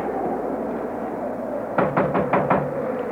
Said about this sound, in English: If you still mean to go, then let's go. All right, come along. I'll knock.